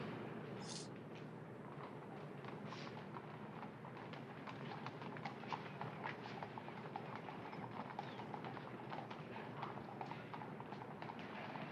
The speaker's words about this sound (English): Weird that we have horses walking in the background. I can hear the click clock of horses. I know, what? I mean, I guess they have pavement, right?